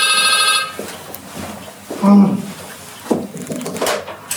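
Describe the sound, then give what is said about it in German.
A telephone bell rings in one short, bright burst at the start, then gives way to clattering handling noises, a low thud and brief bits of voice. “Ist im Haus, dann läutet jemand vorher an.”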